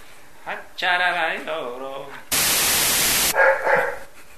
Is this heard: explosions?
no